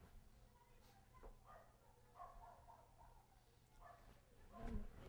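Dogs bark in the background in Cuba, a scattered series of short yelps and barks over a low, steady background hum, with one louder bark near the end.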